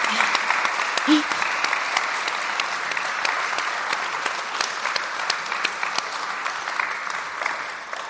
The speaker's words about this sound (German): Ich muss auch mal für dich klatschen.